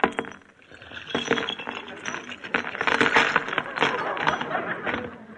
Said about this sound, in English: Here, they're in my purse. Let me have it. Oh, wait, I'll just empty it out on the table. Okay.